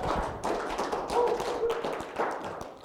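A crowd applauding, with dense, steady clapping that fills the whole stretch at a fairly even loudness, a few sharper claps standing out from the patter.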